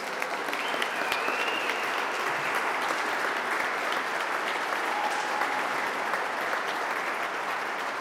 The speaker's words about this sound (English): Once that applause died down,